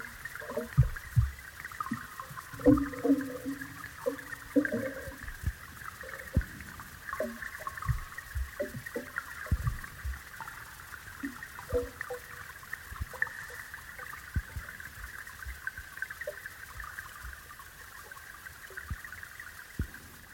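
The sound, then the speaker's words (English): Muffled underwater river sound recorded with a hydrophone, with a steady band of rushing water, scattered knocks and rattles of the hydrophone under the water, and low gurgling thumps throughout, continuous with no voices. “you know, the hydrophone rattling under the water, but also in the still places I found that there was no sound at all.”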